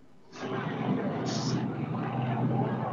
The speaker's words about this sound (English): And the chopper is flying directly overhead. I hope you can hear that back in Marion, Ohio.